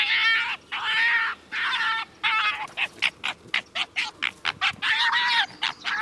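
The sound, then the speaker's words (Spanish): A fox approaching carrion in grassland, drawn by the smell of the carcass, lets out a rapid series of loud, high-pitched squeals, yelps and growls, some drawn out and others short and choppy, while waiting its turn to feed, with no talking. “Atraído por el olor del cadáver, gruñe y suspira con un chillido agudo mientras espera su turno.”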